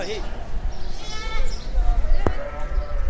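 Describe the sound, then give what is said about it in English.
Sheep bleat amid the steady hubbub of a busy livestock market in Baghdad, Iraq, ahead of Eid al-Adha, their wavering cries rising over crowd chatter and background noise, with a sharp knock cutting through partway. “is looking to buy sheep at markets in Baghdad to mark the occasion.”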